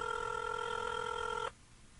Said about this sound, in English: It's ringing. His phone might be ringing on the plane. Can you guys hear that?